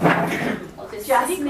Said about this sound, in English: I'm just going to close the door.